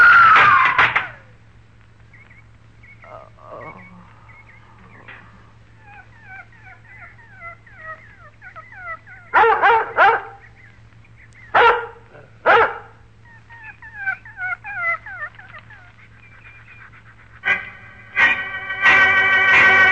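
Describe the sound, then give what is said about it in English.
A dog barks in sharp bursts, then lets out a string of high whining whimpers between the barks, with a steady low hum underneath and no talking. “That darn dog gets my knife.”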